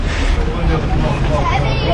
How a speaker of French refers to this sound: Alors on arrive à la haute Casbah. Le point culminant. Voilà. Salam alaikum. Il y a une belle agitation ici. Hein. Oui. Ça, c'est très vivant à la haute Casbah, à Sidi Ramdan, à Ouin Mzouqa.